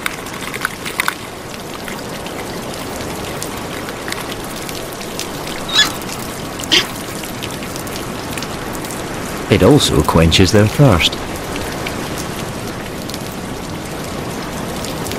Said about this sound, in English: They go to the spa. This natural shower washes off the sea salt that penetrates their feathers.